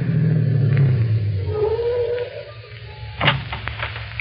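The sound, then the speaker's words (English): A car engine rumbles low and steady, its pitch dropping as the vehicle slows to a stop, followed by a brief sharp clunk near the end. “Stop the car.”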